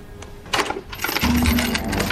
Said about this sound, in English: The SUV driver unlocks the padlock.